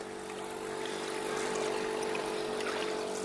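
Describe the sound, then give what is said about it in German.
A steady motorboat engine on the Dämmeritzsee, a lake split between Berlin and Brandenburg, drones with a low harmonic hum and broad wash of water noise, holding a constant moderate level throughout with no voices. “War schon eine Umstellung da auf den Dämmeritzsee, das war schon ein bisschen krass. Die ganzen Motorboote.”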